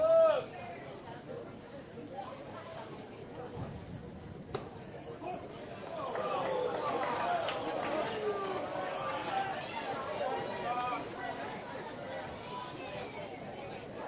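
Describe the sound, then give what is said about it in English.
A baseball crowd of Brenham Cubs fans grumbles and calls out in complaint after the umpire calls a strike on the outside corner, a low babble of many voices that swells louder after a few seconds and then holds steady. “And you hear some complaints from the crowd as the Brenham Cub faithful did not feel that it got the strike zone, but umpire sees it in the outside corner, and that's going to be 0-1.”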